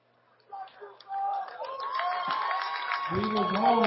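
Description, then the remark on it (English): A football crowd at a Shasta versus West Valley game erupts in cheers after the West Valley defense stops a fourth-and-short run, the roar swelling quickly and holding loud and sustained, with many shouting voices blended together and a closer voice rising over it near the end. “The crowd will tell you.”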